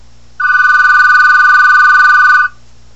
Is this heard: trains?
no